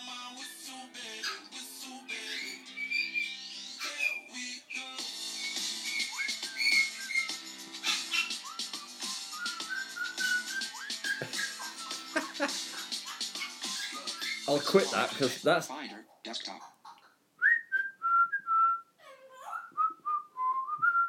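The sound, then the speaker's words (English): A pet bird in a video being played back whistles and chirps in busy, overlapping trills, then finishes with a few clearer, wavering whistled phrases on its own. A person speaks briefly partway through. “Said hello. That's cute.”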